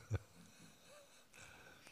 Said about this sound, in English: That's a mental state we create out of our not wanting an unpleasant noise. Unpleasant noise such as my cough.